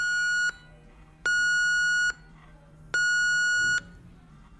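An ECG monitor alarm beeps during a night shift on a women's cancer ward in a hospital in Lower Saxony, Germany, in a steady, repeating pattern: long, bright electronic tones about a second apart, clear and fairly loud over a low background hum.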